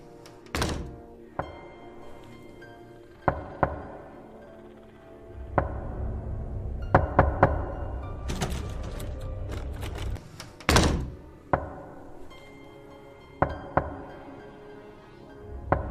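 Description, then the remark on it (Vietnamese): Heavy, hollow knocks on a door land at irregular intervals, some loud, others softer, with a low rumbling drone swelling underneath partway through. No one speaks. “Cô lại cảm giác cái âm thanh gõ cửa kia nó lại phát ra.”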